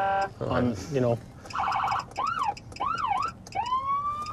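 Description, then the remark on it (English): An officer's truck electronic siren, used to chase bears away, cycles rapidly through several different tones: a steady blare, quick warbling yelps, rising-and-falling wails and a long upward sweep, all loud. “I've got different sirens on my...”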